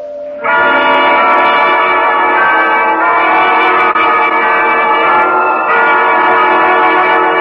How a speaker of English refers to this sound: Those bells. Try to stop those church bells. There is no room for me to think.